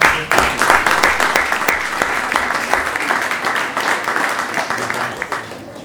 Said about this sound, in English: All right. One more round of applause for.